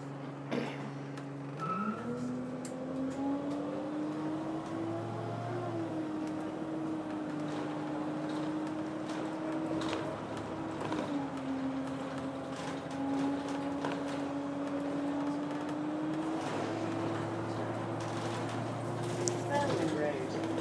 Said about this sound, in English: Just thought I'd give you a taste of my completing of the circle, having walked from Richmond to Sheen through Richmond Park. This is my bus journey back. In fairly heavy traffic.